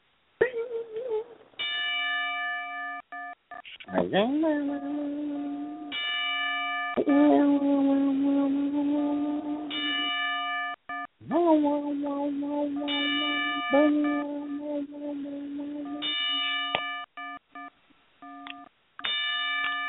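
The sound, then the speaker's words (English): A ring bell is struck ten times as a memorial salute for the late Nature Boy, Buddy Landell, clanging tolls spaced a second or two apart, each ringing out and overlapping the next, with a faint voice murmuring beneath. “So let's go ahead and ring the bell 10 times for the Nature Boy, Buddy Landell.”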